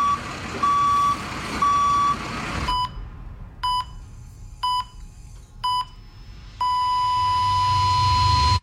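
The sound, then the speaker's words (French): A construction vehicle's reversing alarm beeps loudly and repeatedly in an even rhythm as the vehicle backs up on a construction site, the tones cutting over a rumbling engine, with a steady continuous beep at the end. “Sur un chantier, chaque manœuvre de recul d'un véhicule comporte des risques.”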